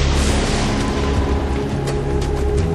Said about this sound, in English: Lightning again curtained the land in silver lace, and the thunder beat at the stones.